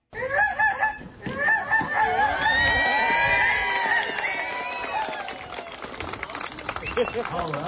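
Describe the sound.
A person loudly imitates a goose with honking, wavering calls repeated over several seconds, the voice rising and falling in a bird-like way, with crowd noise in the background. A contestant mimicking an Arctic animal at an animal calling contest, cheered by the crowd.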